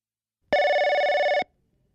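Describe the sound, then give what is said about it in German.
A single loud telephone ring for a call to an electrical company, one burst of electronic bell tone lasting just under a second with a fast warbling flutter, alone against silence with no voices. “Telefongespräche. Anruf in einer Firma.”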